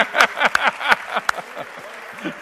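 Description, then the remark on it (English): A crowd claps in a steady, dense patter with a few sharper claps standing out, while voices murmur and call out underneath the applause. “We got to give this guy a round of applause.”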